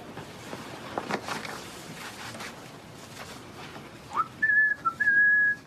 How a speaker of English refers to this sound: So pretty much the whistling is the only thing you don't have to bleep in this.